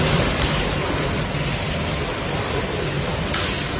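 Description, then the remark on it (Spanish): Scallops spitting water in a depuration tank at Artesa Rías Baixas in Galicia: a steady, dense hiss of splashing and spurting water, fairly loud throughout, with a couple of slightly brighter splashes and no voices. “La lluvia, es alguien chapoteando, pues no, son vieiras depurando en Artesa Rías Baixas.”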